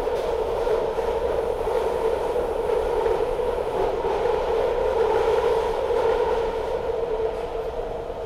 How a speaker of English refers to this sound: So I'm on this train for about 40 minutes each day, sometimes closer to 50.